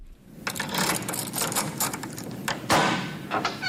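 A large key, about 15 cm long, turns in the lock of a massive wooden door to a medieval vault near the Michaeliskirche in Lüneburg, the Arbeitskreis Lüneburger Altstadt's storeroom: a run of scraping metallic clicks and rattles, then a louder clunk as the bolt gives, followed by a few lighter clicks.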